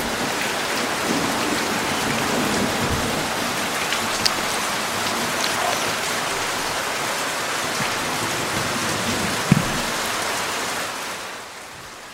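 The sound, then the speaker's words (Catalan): Steady, dense rain falling continuously in a forest, a wash of patter on surfaces with a couple of brief louder drips or knocks, fading out at the very end. No voices. “Va començar a ploure.”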